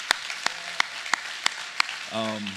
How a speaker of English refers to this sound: I want to say it's especially thank you to the moms here today. There's something different. Yep, we can clap for that, that's for sure.